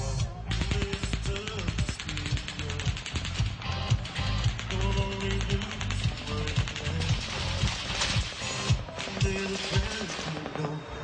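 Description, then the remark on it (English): Automatic machine gun fire rattles out in long, rapid strings of sharp cracks that barely pause, loud and dense throughout, with a steady low droning tone running underneath, erupting into a crowd of thousands of fans at the Route 91 Harvest Music Festival, an outdoor country music festival. “Machine gun fire, possibly from an automatic weapon, erupting into a crowd of thousands of fans.”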